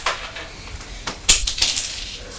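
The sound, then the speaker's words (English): Coins from a purse are thrown onto a hard floor, a bright metallic jangle with one loud ringing impact midway, followed by scattered smaller clinks settling. No one speaks. “Putting all the money from Mummy's purse into the back of your bicycle. And on the floor, are you throwing it on the floor?”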